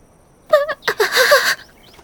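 A few quick chirps from returning birds followed by a burst of fluttering, flapping wings mixed with more tweets, lasting about a second and then stopping, with no voices.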